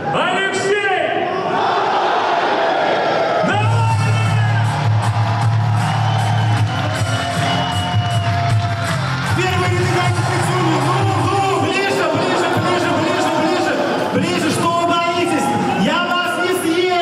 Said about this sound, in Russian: Экспрессивный ведущий, прямая трансляция в интернете и выход на сцену Алексея Навального под аплодисменты. Встречайте, легенда!